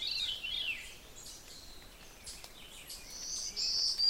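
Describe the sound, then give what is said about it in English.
A black-throated green warbler sings high, buzzy zee notes, faint against a quiet outdoor background, with a brief opening phrase and a stronger buzzy note near the end. “That zee-zoo, zee-zee-zoo, black-throated green warbler.”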